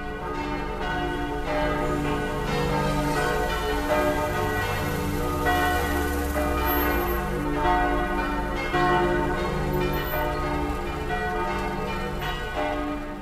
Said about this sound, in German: Danach, um 18 Uhr, die Kirchenglocken.